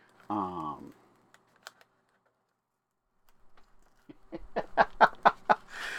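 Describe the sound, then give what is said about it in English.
A colored pencil being handled: a few isolated light clicks, a pause, then a quick cluster of sharp taps and clatters. A brief voiced sound comes at the very start. “It's a colored pencil.”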